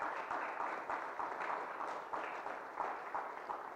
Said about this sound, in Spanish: Denle un fuerte aplauso al Señor en acción de gracias.